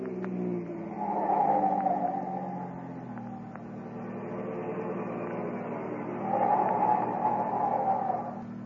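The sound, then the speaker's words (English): A speeding car's engine rumbles, with two high squealing bursts like tires or brakes as it slows to a stop at a stoplight changing from green to red, the motor idling steadily in between. No one speaks. “close behind him speeds another car, a police car”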